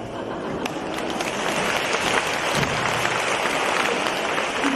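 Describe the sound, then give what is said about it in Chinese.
Steady applause from an audience of overseas Chinese in Australia fills the whole stretch, a dense wash of many hands clapping at an even, fairly loud level with no voices rising above it. “那个很多从海外来的我们的佛友觉得奇怪啊，澳大利亚的那个华人华侨很含蓄啊，鼓掌都不打开。”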